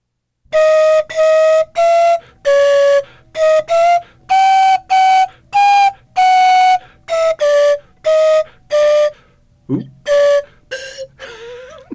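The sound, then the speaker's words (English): A slide whistle, a small tube with a movable plunger, plays a brisk, loud tune of about a dozen short, bright notes at shifting pitches, with a quick upward swoop near the end. “A small tube with a movable plunger. That's what a slide whistle looks like.”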